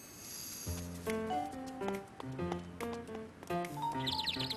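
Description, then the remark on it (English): A few quick, high bird chirps flutter in near the end from a bird looking for worms to eat, layered over a bright, steady melody of sustained musical notes that plays throughout. “What's the bird doing, Grandpa?”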